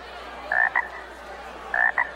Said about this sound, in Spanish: un horrible, repelente, escamoso, venenoso, húmedo, baboso, gimiente sapo. Con las patas de atrás encogidas, para saltar más alto y más lejos...